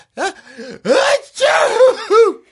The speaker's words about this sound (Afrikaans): Jep, jy het in jou hande genies. Jy sal weer moet gaan was.